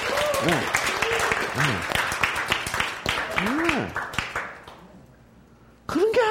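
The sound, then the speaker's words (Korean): A crowd breaks into loud, dense applause at the speaker's call for applause, with voices calling out over the clapping; it fades away after a few seconds, and a man's voice starts up again at the end. “은혜가 더 차고 넘친다. 박수.”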